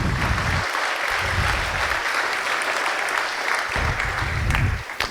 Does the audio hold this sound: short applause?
yes